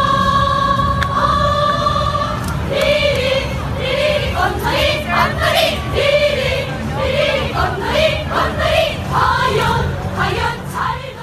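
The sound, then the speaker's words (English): The North Korean cheer squad chants in unison at the games, many voices rising and falling together in a rhythmic, sing-song pattern of short repeated phrases, loud and steady over a continuous crowd hum. “Why don't we start with the North Korean cheer squad first, and let's listen to a little clip of them in action.”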